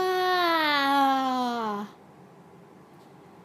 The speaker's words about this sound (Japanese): 今あくびしたんだけど、なんか上手に言えなかったから